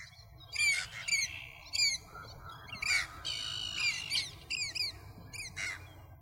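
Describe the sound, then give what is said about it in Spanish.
Birds call repeatedly in harsh, squawking bursts over a steady low rumble in a natural park on the Bay of Cádiz, several overlapping calls with short pauses between them, no voices present. “En la misma bahía de Cádiz tenemos un parque natural con importancia internacional gracias a las aves que alberga.”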